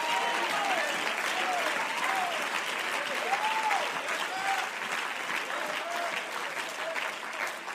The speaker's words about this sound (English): I'm getting a few more of you clapping and saying amen.